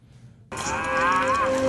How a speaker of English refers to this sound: And then we think he's dead, and all of a sudden he saws through, and we have this sound clip, the feral scream.